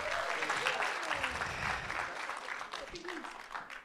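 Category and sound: crowd, audience hand clapping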